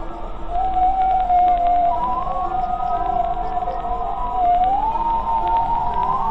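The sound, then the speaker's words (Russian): Whale mother and calf vocalizing: a long, steady moaning tone that slowly bends up and down, with a second, higher call briefly overlapping it, all over a low rumbling background. “Это мама кит и ее китенок.”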